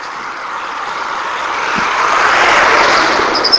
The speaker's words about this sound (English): As soon as the school bus gets by.